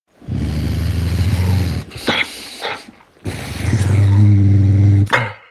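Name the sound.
dog growling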